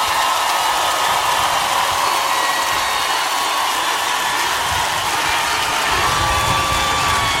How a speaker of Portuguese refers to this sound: por favor, os aplausos de vocês pro autor da obra.